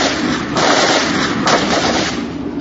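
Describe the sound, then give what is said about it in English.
Loud, continuous gunfire fills the whole stretch as a dense, crackling barrage, with a few sharper bursts standing out at roughly one-second intervals. Bravo 4 is putting down covering fire, and muzzle flashes come off the target's roof. No voices are heard. “Bravo 4 was already putting down covering fire from behind us.”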